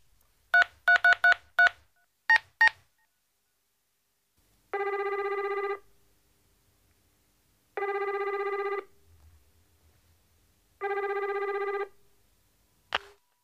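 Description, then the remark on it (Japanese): A telephone is dialed and rings: a quick burst of telephone keypad tones, about a dozen short beeps in rapid clusters, followed by three long evenly spaced ringback tones and a faint click at the end as the call to the Pizza Cat pizza shop connects. No one speaks. “ああ、わかったわかった、僕がかけますよ。”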